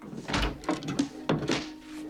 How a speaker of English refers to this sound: Easy is frantically searching Dupree's drawers. Eventually, he finds the Bible hidden beneath some neatly folded shirts.